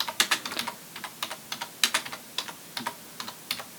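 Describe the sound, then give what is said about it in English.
Rapid typing on a computer keyboard while looking up a book's author, a steady stream of crisp, clicky keystrokes in uneven bursts with brief pauses between, fairly quiet and with no voices. “I'm sure you can hear me typing here.”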